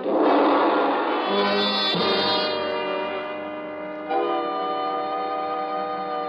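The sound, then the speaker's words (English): A big gong rings out loudly with dense, shimmering metallic overtones that swell and waver, then a fresh strike at about four seconds renews the sustained, humming vibration. “The vibrations of the big gong didn't take long in building up to the point where Cardew and I felt as if someone was going to work on our brains with 1,000 sledgehammers.”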